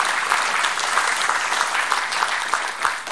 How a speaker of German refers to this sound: Ja, dann bedanken wir uns auf jeden Fall erstmal herzlich bei dir mit Applaus für diesen Vortrag.